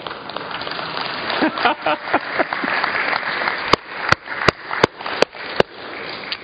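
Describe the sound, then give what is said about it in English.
Crowd applause fills the first few seconds, then gives way to six sharp, loud hand claps in a steady, evenly spaced rhythm as a speaker applauds God. “I got to applaud God for myself, the way He has built me, and the way He's using me now for His work among the Haitian people.”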